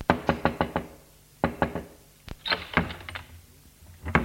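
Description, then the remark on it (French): A bellboy delivering an envelope raps on a hotel room door in quick bursts: a run of five sharp knocks, a pause, then three more and a scattered few after, crisp with no voices. “2 heures après, on frappait à la porte.”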